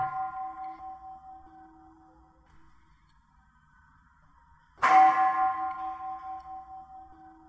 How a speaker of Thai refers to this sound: ฟังระฆังเนี่ยฟังระฆังแล้วเห็นไหมบางทีจิตก็ไหลไปที่ระฆังบางคนก็เห็นพอฟังระฆังปุ๊บจิตมันไหวอยู่ที่กลางอก